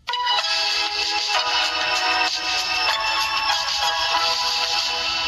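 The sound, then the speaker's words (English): A phone alarm tone rings out in the morning as a wake-up alarm, a bright, busy electronic melody playing loudly and steadily for several seconds with no voices over it. “So this morning, without realising it, I woke up to this.”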